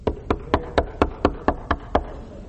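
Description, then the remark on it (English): A steady series of about ten firm knocks, evenly spaced, like a fist rapping on a wooden door, with no talking over them. “I'm standing at the door knocking.”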